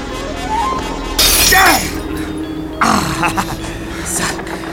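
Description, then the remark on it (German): A mirror hanging on a wall shatters with a loud, bright crash, followed by a second burst of breaking and tinkling shards, over a low steady hum. “Da hängt der Spiegel an der Wand.”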